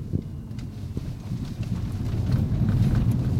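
Gravel crunches under wheels while driving through a construction site, recorded with the microphone held farther away, over a steady low rumble, with scattered crackling impacts throughout and the noise growing slightly louder toward the end.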